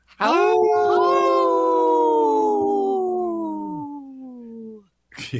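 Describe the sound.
A person imitates a wolf howl on the radio show Native Roots Radio: one long, steady, tonal wail of about four and a half seconds, loud and sustained, sliding slightly downward before fading, followed by a brief breath.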